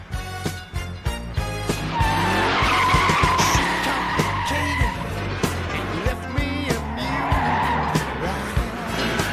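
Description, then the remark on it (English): A car with a 440 cubic inch police engine, police tires, suspension and shocks roars as it accelerates hard, its tires squealing and skidding in long, wavering screeches. The sound is loud, with the engine revving throughout. “The car's got a lot of pickup. It's got a cop motor, a 440 cubic inch plant.”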